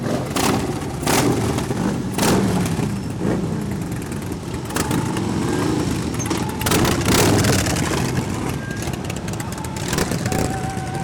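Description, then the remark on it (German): An estimated 200 motorcycles of a biker activist tour rev and rumble together as they set off, a loud, continuous roar with throttle bursts swelling over the low drone, with some voices faintly mixed in. “Gaspedale werden getreten und die Motoren von geschätzt 200 Maschinen brummen los.”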